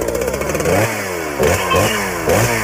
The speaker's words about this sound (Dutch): Nou, er wordt even net omgezaagd